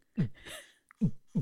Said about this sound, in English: Is that a heartbeat?